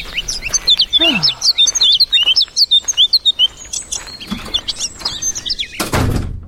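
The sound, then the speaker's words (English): Many birds chirp and tweet busily at once in spring, a dense overlapping chorus of quick high calls, followed by a brief burst of noise like a door closing at the end. “It's spring and you're here being birds, and if I don't like it, I should get back inside, I guess.”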